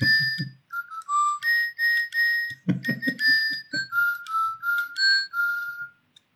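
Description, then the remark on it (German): A pet bird named Johnny whistles live for YouTube viewers, a run of clear, high, tonal notes, some sliding in pitch, in a fairly steady rhythm; brief low rustling and thumping sounds break in early and midway. “Also, der Vogel, den wir immer schon vermutet haben,”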